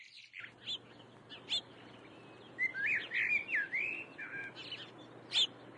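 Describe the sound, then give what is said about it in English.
Several birds chirp and sing, with short scattered tweets at first and a denser run of warbling, trilling notes in the middle, over a steady low background hum. “He explains why early winter is a perfect time to count the local birds.”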